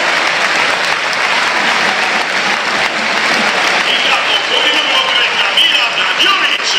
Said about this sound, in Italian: esce Matteo Pellegrino, e questi sono gli applausi del Tardini per Pellegrino che non ha segnato, ha avuto l'opportunità di farlo ma non può che meritare applausi